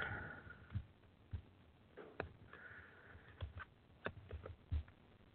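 Tarot cards are shuffled by hand quickly before a card is pulled for a reading: soft, irregular papery taps and brief rustles, quiet, with short pauses between bursts and no one speaking.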